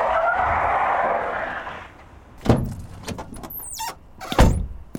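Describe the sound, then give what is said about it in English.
A car rolls in with a rushing engine roar as it pulls up at a front entrance to park, then lurches to a halt with sharp thumps and a brief high-pitched tire squeal sliding downward, followed by another heavy thud. “Mac pulls up at the front entrance and just parks wherever the fuck he wants to.”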